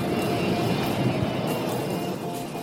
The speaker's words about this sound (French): Pourquoi il ne décolle pas ce putain d'avion?